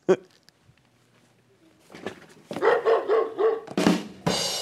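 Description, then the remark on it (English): A dog barking sound effect: a quick run of four or five loud, evenly spaced woofs, followed by a couple of sharper bursts, after a quiet, murmuring start. “Also on Thursday, there's Petco. And that's the aptly tickered woof.”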